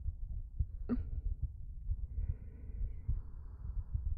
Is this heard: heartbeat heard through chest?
yes